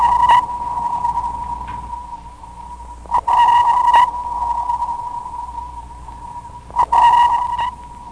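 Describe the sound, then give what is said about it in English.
Sharp tonal sonar pings ring out at intervals, each trailed by a lingering wash of underwater reverberation from the water, with a fainter target echo from a submarine returning about one second after the transmit pulse. No voices are heard. “The sonar sequence consists of an emitted transmit pulse, reverberations or echoes returning from the water medium, and the target echo.”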